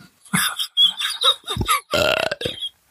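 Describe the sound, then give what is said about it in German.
A string of loud burps in quick succession, ending in a long, croaking, drawn-out belch followed by a short final gulp. “Ja, nee, jedes Mal, wenn du Eiswürfel kaufst, rülpse ich jetzt.”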